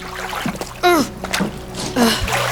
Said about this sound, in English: I'm so sorry. I didn't mean to throw water on you.